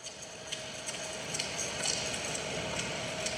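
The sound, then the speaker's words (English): A steady air conditioner hum fills the space, a constant whooshing drone with a faint tonal whine and light intermittent ticking, unchanging throughout, with a Japanese woman talking faintly behind it. “I'm really puzzled as to, like, what use there would be for air conditioner with Japanese woman talking faintly behind it.”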